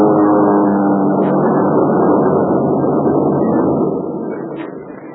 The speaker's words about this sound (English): Two engines, twin skins and rudders. The wings sweep back to small ships. Right. Yeah, it's a group of Mitsubishi heavy bombing monoplanes.